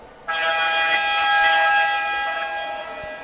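A loud, sustained electronic horn blares abruptly and holds steady for about three seconds, a buzzy harmonic tone filling an indoor arena, signalling the start of the second half of a women's university match, with no talking over it.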